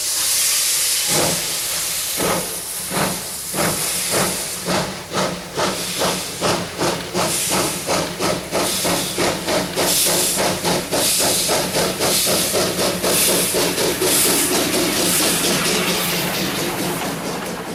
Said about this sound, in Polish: Nasz nadwiślański pociąg właśnie wjeżdża na peron.